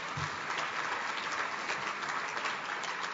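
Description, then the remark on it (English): Steady applause from an audience at a New York Public Library event, for people who raised funds for library books, fills the whole stretch, a dense, even patter of many hands clapping at once with no pauses. “And even though we've all applauded them already, I would ask all of them to stand at this point.”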